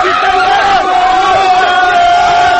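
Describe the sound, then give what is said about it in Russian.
A large crowd celebrates on the Champs-Élysées with loud, continuous cheering and shouting, a dense roar of many voices with a steady high-pitched tone running through it for the whole stretch. “Елисеевские поля или Шанс-Элизе постепенно переполняются.”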